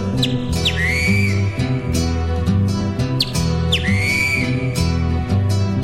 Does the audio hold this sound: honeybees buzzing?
no